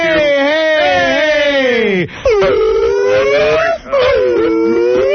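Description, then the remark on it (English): Loud human howling in a studio: long wavering wails that slide up and down in pitch, broken by two brief pauses before the voices start howling again. “The cursing, howling monkeys have come out.”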